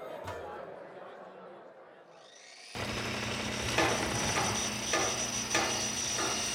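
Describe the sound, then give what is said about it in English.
After a few quiet seconds, loud power tools start up with a steady motorized whine and hum, and sharp grinding bursts surge every half second or so. “Over the din of power tools, Zoe heard a voice.”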